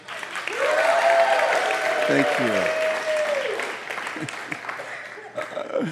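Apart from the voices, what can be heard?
audience applause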